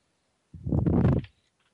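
A single loud fart-like noise blurts into the microphone, a buzzy, rumbling burst lasting under a second, with silence on either side and no talking.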